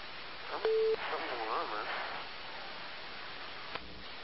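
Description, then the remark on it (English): A single steady electronic beep cuts across a crackly, band-limited telephone line, followed by muffled voices and a faint click near the end. “Oh, fuck, it beeped again.”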